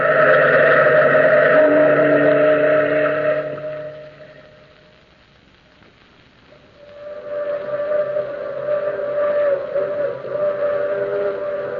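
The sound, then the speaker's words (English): The whistle of a steam through express train moans in two long, drawn-out blasts at night, a loud mournful chord that fades into a brief lull before wailing again. No one speaks. “That's the long moaning whistle of the through express, wailing through the lonesome night, crying like a lost and anguished soul in the mountains.”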